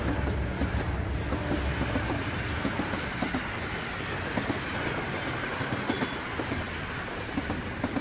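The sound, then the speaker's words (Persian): A train rushes past at speed across a plain, passing a man and his son walking with a bicycle; a loud, steady roar of wheels and cars with rapid clickety-clack rattling running through the whole stretch, no voices. “قطار با سرعت از کنارشون رد میشه.”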